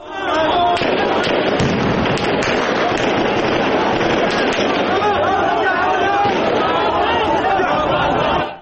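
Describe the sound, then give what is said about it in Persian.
Repeated sharp bangs and cracks of gunfire ring out during a street clash between security forces with water cannon and protesters throwing stones and grenades in Baghdad, over a loud, agitated crowd, with shouting and chatter filling the scene throughout. “نیروهای امنیتی با ماشین آپاش به سمت معترضین حرکت می‌کنند و پس از پرتاب سنگ و نارنجک از سوی این معترضان صدای شلیک و تیراندازی شنیده می‌شود.”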